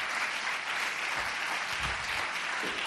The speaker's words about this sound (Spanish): Aplaudan, aplaudan.